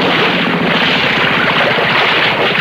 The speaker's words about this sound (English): I'll idle the motor while you jump off.